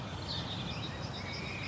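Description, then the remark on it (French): Faint, distant bird chirps drift high over a steady low outdoor rumble, soft and continuous with no one talking, on a large square set up with marquee tents in the early afternoon; the weather is still cool and the sun is starting to come out. “C'est le début de l'après-midi et on entend des oiseaux au loin.”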